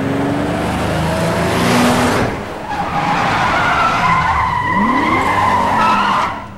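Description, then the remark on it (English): Tires squeal loudly as two BMWs skid around a corner, engines roaring, with a rising screech near the middle and sustained high-pitched skidding before the noise cuts off. No one speaks. “The two Beamers screech around the corner and pass the waiting Bell and Andy.”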